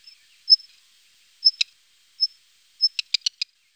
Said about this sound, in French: Les cris du rouge-queue noir sont plus fins et moins sonores. Le rouge-queue à front blanc, le rouge-queue noir.